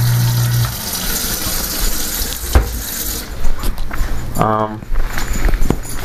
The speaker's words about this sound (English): Then we have a sink. Turn on the water, and we also have in the sink garbage disposal, which you don't put light bulbs down.